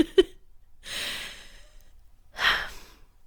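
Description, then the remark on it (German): A deep breath drawn in with a soft airy rush, followed by a longer, fuller exhale, with no talking, after a brief faint click at the start. “Und jetzt atmen wir alle einmal tief durch.”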